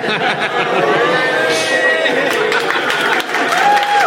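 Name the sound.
audience applause break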